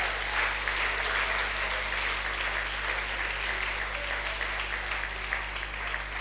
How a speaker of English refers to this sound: I want everybody to clap to God's glory.